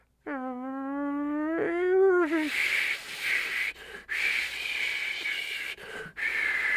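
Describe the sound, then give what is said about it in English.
A whistling tea kettle sound effect, played as the kettle being ready during a made-up tea ceremony: a slightly rising, reedy tone for about two seconds, then a loud, steady steamy hiss with a thin high whistle that cuts out briefly twice. “I bet they're going to put that sound electronically into tea kettles now.”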